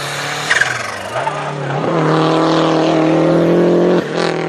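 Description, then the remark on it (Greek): A Lancia Delta rally car engine revs hard, its pitch climbing and then holding at a loud, steady roar before briefly dipping as if shifting gear, with no voices. “Οι αγώνες, έτσι, ένα αυτοκίνητο που δεν το περίμενε κανείς ότι όταν είχε πρωτοβγεί ότι θα κυριαρχήσει στους αγώνες αυτοκινήτου, χαρακτηριστική η τετρακίνηση, αλλά και αυτό το boxy look, το hatchback, το τετράθυρο,”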